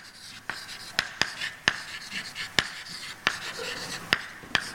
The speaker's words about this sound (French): Alors je vais écrire.